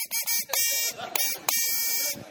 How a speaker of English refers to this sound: At every party, there always seems to be that guy who loves the buzzer a little too much. He can't wait for someone to say a forbidden word. He can't wait for the timer to run out. He invents reasons to use the buzzer. He plays songs.